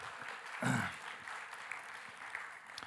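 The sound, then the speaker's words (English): An audience applauds to welcome a children's ministry intern called up to help with a taste demonstration, with steady, dense clapping that fills the whole stretch, swelling briefly louder near the start before settling into an even patter. No one speaks over it. “Let's give her a warm round of applause.”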